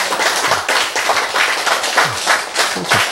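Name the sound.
audience clapping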